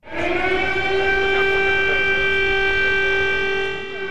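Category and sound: signal or alarm, air raid siren wailing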